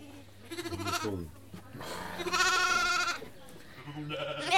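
sheep bleating

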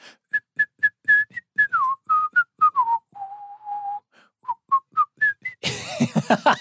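person whistling a tune

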